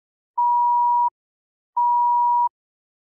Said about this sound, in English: After the first playing of the recording, you will hear one beep. After the second playing of the recording, you will hear two beeps.